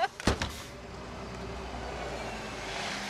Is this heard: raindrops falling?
no